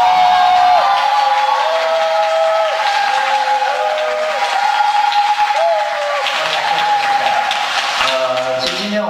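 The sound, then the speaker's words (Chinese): An audience applauds loudly and steadily for several seconds, a dense clatter of many hands, with some wavering tonal sounds rising above the clapping. “如果掌声更热烈的话，今天可能会讲得更好。”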